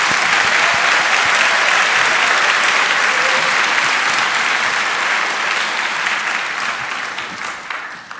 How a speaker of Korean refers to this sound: 이 뜨거운 여름에 함께했던 하나님 또 거기에 동역했던 여러분들 다시 한번 영광의 박수를 하나님께 올려드립니다.